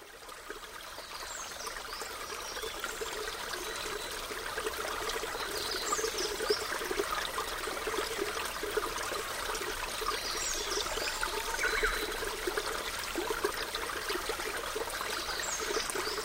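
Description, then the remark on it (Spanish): Water trickles and flows steadily in a continuous babbling stream, moderately loud, with no voices present. “En nuestro jardín vivían unas flores hermosísimas porque no les faltaba nunca su alimento preferido, el agua.”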